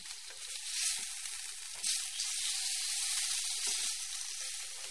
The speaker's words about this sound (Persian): دانه دانه با دست به شکل بیضی قالب می گیرند و برای طرح دار شدن آن را بر پشت سبد می غلطانند تا طرح چهارخانه سبد روی آن نقش بگیرد و سپس آن را در روغن کرمانشاهی سرخ می کنند.